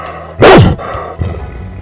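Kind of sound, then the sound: animal, dog barking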